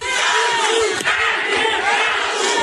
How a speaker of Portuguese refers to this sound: o público presente começou a gritar o nome de Cadu